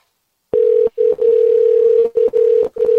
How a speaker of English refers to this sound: Even his phone ring is all fucked up. It's like super lazy.